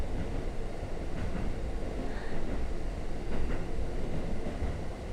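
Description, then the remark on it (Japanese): A steady, enveloping rumble of a train rolling along rails, with dense low-end roar and faint periodic clatter from the track joints, with no voices. “ふわふわした空間で、私と列車の音だけに包まれている感じがするでしょう。”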